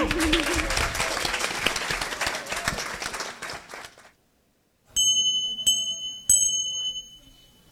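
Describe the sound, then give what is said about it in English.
An audience applauds panelists and a moderator, a dense wash of clapping that tapers off into silence after about four seconds, followed by three bright, ringing chime strikes. “A round of applause for our panelists. And a round of applause for our incredibly skillful and mindful moderator”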